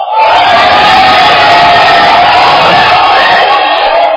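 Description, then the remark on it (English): A large crowd shouts and cheers loudly and continuously, a dense wall of many raised voices with whoops rising out of the roar, sustained throughout. “I've always told you, the shouting side is the winning.”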